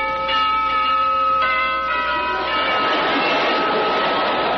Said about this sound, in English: The doorbell rings.